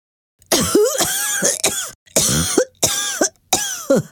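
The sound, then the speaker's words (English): A giraffe coughs loudly and harshly, about six raspy, throaty hacks in quick succession with brief pauses between, forceful, with no talking. “A giraffe coughs loudly.”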